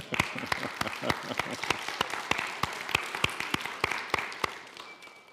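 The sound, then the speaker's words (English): A church audience applauds, giving applause to the Lord during a sermon. A crowd wash of clapping and sharp individual claps rings out in a quick, fairly steady rhythm. It stays at an even, moderate level, then thins out at the end. “Should we give applause to the Lord?”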